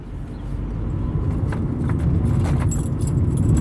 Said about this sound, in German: Er rumpelt mit seinem Auto über Feldwege Richtung Fluss.